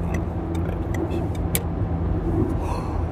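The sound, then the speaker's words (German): Steady low rumble of a car moving through road traffic, a continuous engine and road drone with faint higher hiss and brief ticks, no one speaking. “Und jetzt muss ich mal so ein ganz kleines bisschen hier meine Synapsen auf den Verkehr richten. Haben wir hier einen Stau?”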